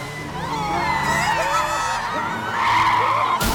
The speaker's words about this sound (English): car speeds wildly into view.